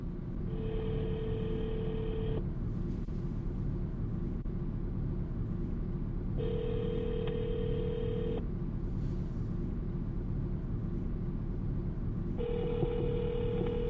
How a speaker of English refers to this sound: So I'm going to just call up DG, my little Mac Mini over at the house, because I'm currently sitting in the car, and my little Mac is going to spin the MP3, so to speak. So let me just see if I can get him on the phone.